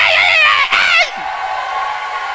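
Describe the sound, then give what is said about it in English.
A man shouts loudly in one strained, drawn-out burst lasting about a second, forceful, after putting his microphone down, then cuts off abruptly, leaving only a faint background hiss. “The shout, I will shout. You will not think that I'm shouting at my age.”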